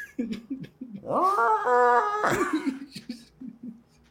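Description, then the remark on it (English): A single elk-like bugle call, a rising, strained, high-pitched wail that holds for about a second before breaking off, framed by short low grunting or chuckling bursts before and after. “He's got a fucking like elk bugle going on.”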